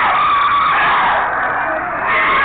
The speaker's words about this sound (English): They are screaming because they have to go, and they don't want to go. They don't want to lose their victims.